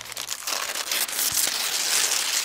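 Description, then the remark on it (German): Paper crinkles and rustles continuously for a couple of seconds, a dense, bright crackling with small sharp snaps scattered through it, fairly loud and steady, with no voices. “Wen wundert es da, dass dieser knisternde Klassiker auch im 21. Jahrhundert ohne ernstzunehmende Konkurrenz ist?”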